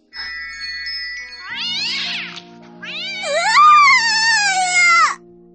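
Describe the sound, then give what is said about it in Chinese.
A cat meows loudly, first a short rising call and then a long, drawn-out wavering yowl, over a faint steady background hum. “来人，谁的猫？朕要诛其九族。”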